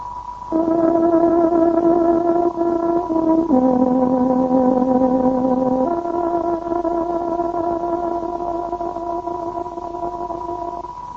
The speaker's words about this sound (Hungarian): Itt a Szabad Európa rádiója, a Szabad Magyarország hangja 19, 25, 31 és 41 méteres rövid hullámon. Kedves hallgatóink, pontos időjelzést adunk. Tárogatunk 23 órát jelez.